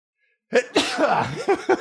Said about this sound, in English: Gonna sneeze.